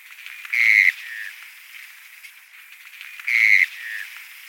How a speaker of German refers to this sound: Deswegen habe ich sie gerne mit reingenommen und wir hören uns nochmal den Mornell-Regenpfeifer an.